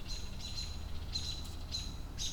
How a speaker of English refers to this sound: Hear those birds freaking out?